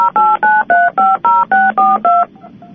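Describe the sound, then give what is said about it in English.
A quick run of about nine touch-tone keypad beeps, evenly spaced and fairly loud, each a steady dual-pitched tone, followed by faint background noise as the dialing stops. “Where all those tones came from. I think that came from me, but sorry about that.”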